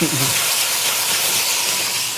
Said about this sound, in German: Endlich kommt die Dunstabzugshaube hier, Mariti, auf Touren, sag ich mal.